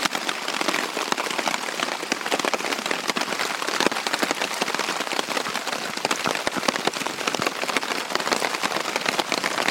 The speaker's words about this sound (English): and it started to rain, and it hasn't stopped. So it's now 11 o'clock the next morning, and I'm basically just waiting for the rain to let off a little bit.